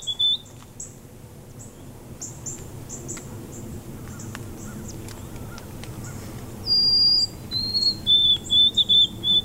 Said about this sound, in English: And this is the white-throated sparrow. So they're singing all over the place.